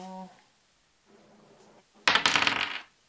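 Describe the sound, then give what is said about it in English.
Dice rattle and clatter across a surface in a quick, bright burst of clicks lasting under a second, following a brief voiced sound and a faint low shuffle; the dice are rolled for a ranged javelin throw in a game. “So that's a ranged. So he's going to roll.”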